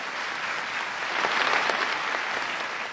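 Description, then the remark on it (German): A crowd of delegates applauds steadily at about 10:30 in the morning after agreeing simply to take note of the declaration, a dense wash of clapping that swells slightly in the middle before holding level; no clear voices or cheers stand out above the applause. “Der Jubel war trotzdem groß.”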